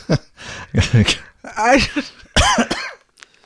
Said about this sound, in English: I was just bragging about how I got through the whole last segment without coughing.